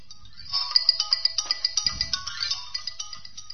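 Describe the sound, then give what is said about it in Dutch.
A telephone rings with a rapid electronic trill as a call is placed to the jeweller who sold a ring: about twenty bright, high-pitched pulses in a steady rhythm, with a brief low rumble partway through and no voices. “Ik ga hem gewoon bellen.”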